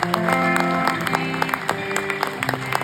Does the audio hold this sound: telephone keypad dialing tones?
no